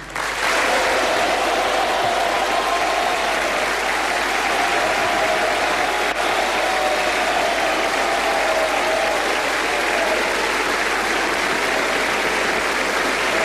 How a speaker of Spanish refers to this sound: Un aplauso atronador se escucha en el Salón de Honor mientras José Antonio Kast comienza a hacer ingreso al salón caminando por el centro,